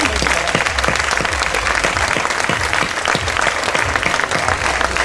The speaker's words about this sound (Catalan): Enhorabona també amb elles i un fort aplaudiment.